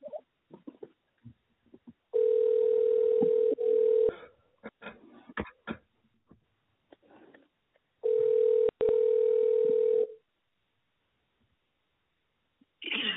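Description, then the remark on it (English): A telephone ringback tone sounds twice while a call is placed, each steady, buzzy ring lasting about two seconds, separated by a long gap of faint clicks and line noise. “I'll go ahead and call him. Yeah, you can call him now.”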